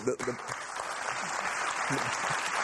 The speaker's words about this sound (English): That is how the people are literally clapping because grown-ups are acting like grown-ups.